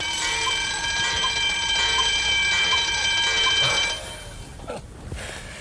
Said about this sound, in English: In the meantime, trumpeteers, sound the alarm.